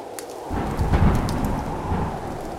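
A thunderstorm with a deep, rolling rumble of thunder that swells and lingers over steady rain, with sharp raindrop taps and crackles scattered on top.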